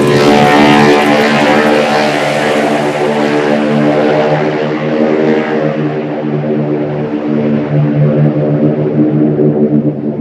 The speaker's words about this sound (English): climbed into a single-engine C-64 Norseman that would fly him across the English Channel to Paris.